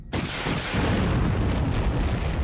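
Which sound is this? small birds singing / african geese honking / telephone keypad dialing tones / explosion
explosion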